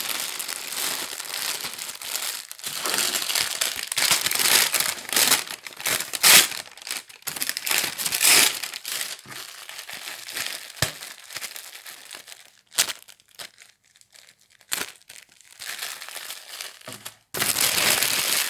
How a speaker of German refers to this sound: Diese sind in unterschiedliche Papiere und Folien eingepackt. Er versucht, die Folien und das Papier auf unterschiedliche Weise aufzubekommen.